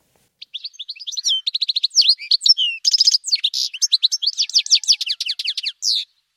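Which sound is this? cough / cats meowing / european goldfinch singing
european goldfinch singing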